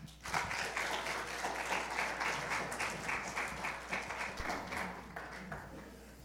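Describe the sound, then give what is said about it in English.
A crowd applauds steadily to welcome a guest speaker, many hands clapping in a dense, crackling wash that holds fairly loud for several seconds before easing off slightly toward the end. “You may have clapped way too soon.”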